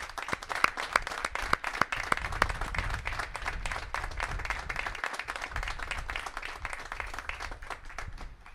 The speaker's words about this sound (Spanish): muchísimas gracias y ya vendrá un aplauso general, pero ahora uno para ti.